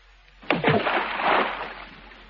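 object thrown into water

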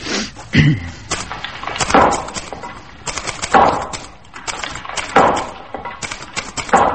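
banging

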